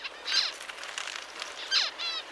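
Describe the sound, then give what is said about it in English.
Two short, high-pitched calls from a parent finch signalling heat to its offspring, each a quick rasping chirp with a downward sweep, sound about a second apart against a faint hiss of background noise. “Scientists are still figuring out how exactly this sound signal from the parents ends up changing their offspring's development.”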